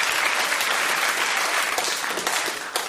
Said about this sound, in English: Some applause, please.